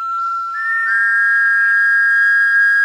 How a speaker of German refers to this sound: Und genau deshalb haben wir uns ein Dino-Pfeifensignal ausgedacht. Und das nur für euch. Unser Freundschaftsruf.